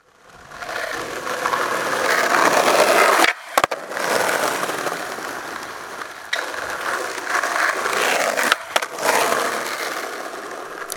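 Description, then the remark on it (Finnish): A skateboard rolls and grinds over street pavement on a sunny spring day in a steady, gritty rumble, broken by a few brief gaps and sharp clacks as the board lifts and lands. No one speaks. “Niin, aurinko paistaa ja skeittihalleista on kevään tullen purkautunut ulos kaduille skeittareiden heimoja.”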